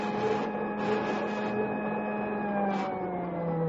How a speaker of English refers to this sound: Now, I'll put on a spool of defectively insulated wire. Mm-hmm. There. Hey, what's that? Well, each time there's a break in the insulation, this buzzer sounds off.